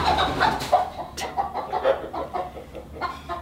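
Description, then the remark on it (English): A few chickens cluck in short, overlapping bursts at a steady, busy pace, moderately loud, with no one speaking. “Chickens.”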